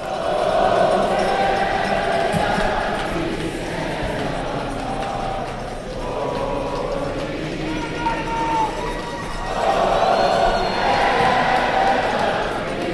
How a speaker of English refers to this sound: Near the end, when the 6-3 victory was certain, the crowd, perhaps tired of cheering, spontaneously decided to sing.